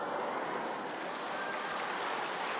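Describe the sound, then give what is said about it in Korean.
A crowd claps steadily for a couple of seconds during a church sermon, a dense, crackling wash of many hands with no pauses and no voices standing out. “나 또 이렇게 말씀 전다 박수 받긴 처음이네요.”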